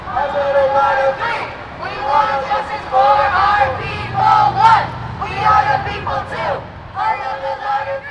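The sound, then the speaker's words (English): A large crowd of climate protesters in San Francisco, gathered at Speaker of the House Nancy Pelosi's office and marching down Market Street, chants in loud, rhythmic phrases, each burst separated by short pauses, with a steady low rumble of banging drums underneath. “In San Francisco, they gathered at Speaker of the House Nancy Pelosi's office and flooded down Market Street, chanting, banging drums, and calling for action.”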